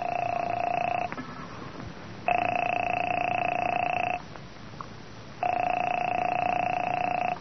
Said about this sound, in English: Phone seemed to ring forever. And just when I was about to hang up...